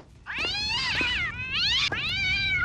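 cat yowling

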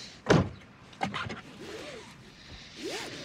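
getting into a car

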